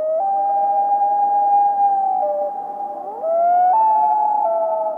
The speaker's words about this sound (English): The call of the common loon during winter is quite different from the summer breeding call.